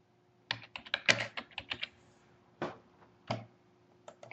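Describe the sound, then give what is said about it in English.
Crisp computer keyboard typing as someone types an email to author Peter Watts: an irregular burst of quick clacks, then a few scattered keystrokes with short pauses between them, with no voices present. “Just typing a little email to Peter Watt.”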